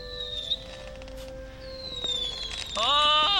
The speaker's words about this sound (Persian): آتیش بازی هم با حال ها بابایی. خوشحالم که خوشت اومد. شکل گلم قشنگن.